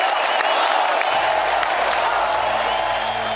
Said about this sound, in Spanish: Así que suerte a todos y una ovación que vaya ya por delante.